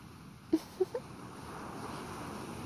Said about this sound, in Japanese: 私としてはもう少しだけこのまま座って海の音を楽しみながら、そのリラックスしたお顔を眺めていたいなぁなんて思ってますけど。